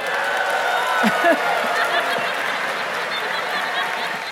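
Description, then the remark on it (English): A live audience breaks into sustained applause with scattered cheers and whoops, a dense, steady wash of clapping lasting several seconds, cheering after a speaker reveals that King Tut had malaria. “Y'all are cheering for malaria?”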